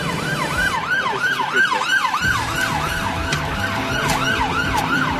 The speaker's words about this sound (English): A very pleasant sound of the siren disappearing into the distance.